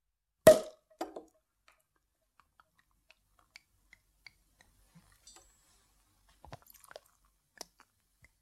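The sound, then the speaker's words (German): Someone drinks liquor from a bottle: a sharp knock of the bottle, then quiet scattered clicks and small swallowing sounds, with no talking. “Also habe ich ihr mit einer Hus genommen, de Buddel. Von doch ist das ein Jahr her und nu trinke ich ihr.”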